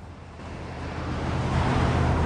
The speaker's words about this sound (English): Daytime, and Brian's driving his red pickup truck through the city.